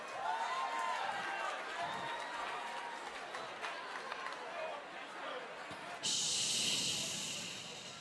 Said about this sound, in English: Great job, guys. Woohoo. Give your guys self a round of applause.